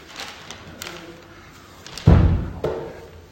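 A solid wooden chair is set down on a hard floor with a heavy thud, followed by a softer knock as it settles, after a few faint shuffling sounds.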